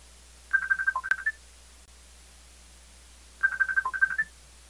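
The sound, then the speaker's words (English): A mobile phone rings with a quick, bright electronic melody of rapid beeping tones, played twice with a short pause between bursts, fairly loud, with no talking; an incoming call on the speaker's phone, which is passed to a friend to answer. “Sorry, I was somebody tried to phone me at the most inopportune moment.”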